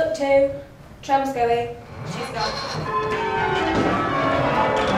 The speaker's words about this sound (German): Sie stehen im Glockenturm. Jeder von den 8 Jugendlichen hält ein Seil, das zu einer anderen Glocke im Stockwerk darüber führt. Die Kunst besteht darin, zur richtigen Zeit zu ziehen. Nur so kommt der harmonische Klang zustande.